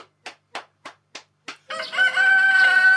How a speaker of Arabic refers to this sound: شوفوا الديك وقف الأكل ونفض جناحينه، وزي كمان داير يقول حاجة.